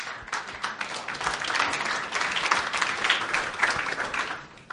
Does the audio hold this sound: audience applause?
yes